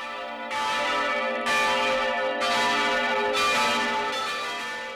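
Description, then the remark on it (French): Easter church bells ring out in a steady, repeating peal, each strike about a second apart with rich overlapping tones that sustain and shimmer between hits. No voices, just the bells, fairly loud. “Cloche de Pâques, Alléluia!”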